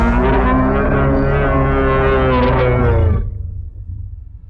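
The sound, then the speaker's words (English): A deep, drawn-out bellowing roar from a hulking, bipedal wolf creature as it explodes out onto a path. The roar blasts loud for about three seconds, rich and harmonic like a monstrous beast, then cuts off into a low rumbling tail. “As the footsteps begin to increase pace, trees get knocked over and pushed apart as this hulking, bipedal wolf creature explodes out onto the path before you and lets out this bellowing roar.”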